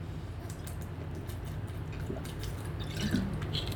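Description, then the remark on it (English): Someone takes a long, big sip of iced tea on a very hot day, with soft wet slurping and a couple of quiet gulps and swallows over faint background hiss. No one speaks. “Hold on, I gotta take a big sip of my tea, because it's about 900 effing degrees outside.”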